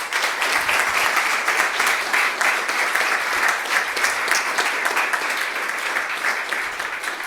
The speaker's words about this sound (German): Genau, erstmal einen Applaus gerne für